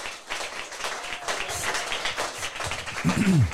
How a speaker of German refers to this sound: Ja, Applaus für euch beide.